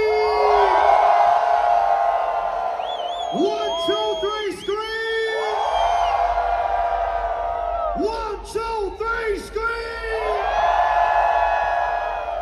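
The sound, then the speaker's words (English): A large concert crowd in Chile raises hands and screams and cheers loudly and continuously, with two surges of higher whooping yells rising above the roar before it settles back to a steady din. “On the count of three, raise your hands and scream.”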